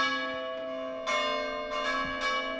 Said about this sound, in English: At 8 p.m., the bells of all the churches in this neighborhood, Trastevere, ring for 10 minutes as a sign of solidarity and prayer for all those suffering from the consequences of the virus.